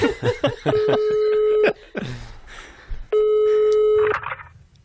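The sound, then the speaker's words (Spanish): Quick bursts of phone dialing tones give way to a steady, harmonic telephone line tone, then a pause and the tone returns briefly, as a call is placed to a company's customer service line; the sounds are clear with no talking. “Voy a llamar al servicio de atención al cliente de los Cansinet.”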